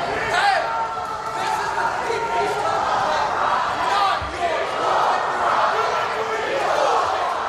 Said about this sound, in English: Well, that is a crowd in the US state of Utah who already think the cost is too high. They're protesting against a sprawling AI data center on the parched shores of the Great Salt Lake that is twice the size of Manhattan.